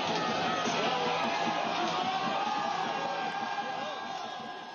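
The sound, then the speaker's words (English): A massive crowd at the January 6th insurrection at the US Capitol roars and shouts in a dense, continuous din of overlapping voices and yells, holding loud and steady before easing slightly at the very end. “That was a video of the January 6th insurrection aired during Thursday's House Select Committee, the first of a series of public hearings.”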